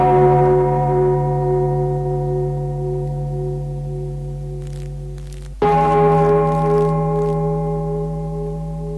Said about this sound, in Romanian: A fost al doilea gong. Vă rugăm să ascultați în liniște.